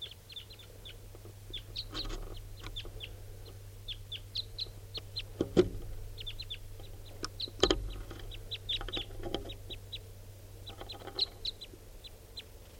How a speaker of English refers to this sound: It's a red male. Recording at 6:43, more wild birds coming in, different birds.